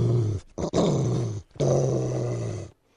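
A dog growls fiercely in two long, rumbling bursts separated by a brief pause and a short snarl, loud and sustained with no talking.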